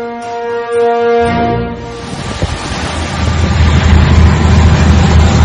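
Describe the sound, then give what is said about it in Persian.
Oil platform machinery at sea in the Persian Gulf: a steady droning hum with layered tones for about two seconds, then a heavy wash of wind and surging water over a deep, continuous rumble. “صدایی که میشنوید مربوط به سکوهای نفتی در خلیج فارس است.”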